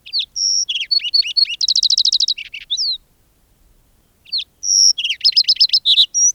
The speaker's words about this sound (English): Today, with its numbers in decline, the species merits renewed attention and care. Why? Well, for one, to remind us just how beautiful a sparrow can be, and how distinctively one sparrow can sing.